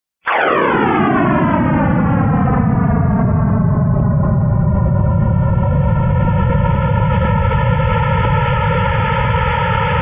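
A sonified rendering of the first million years of the universe, compressed into a few seconds: a sudden loud onset, then a sustained roaring drone whose stacked harmonic tones sweep steadily downward in pitch, like a long descending whoosh over rumbling noise.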